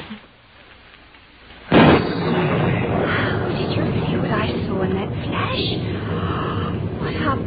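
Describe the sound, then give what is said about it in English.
After a quiet start, a sudden loud crack of thunder breaks out during a lightning storm, then rolls on as a heavy, steady rumble that fills the rest of the storm recording. “Even when the lightning flashes, the shutters must be drawn.”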